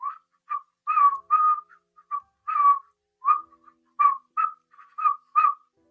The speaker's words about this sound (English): I used to not be able to whistle. Well, I learned how to whistle, and I can just go.